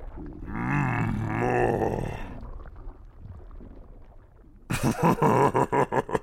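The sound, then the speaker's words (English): A long, deep, drawn-out burp with a wavering, croaky pitch rings out loudly, then after a quiet pause comes a quick series of rough, choppy bursts. “So when I burp, my belly grows. Well then, let's get some more burps out.”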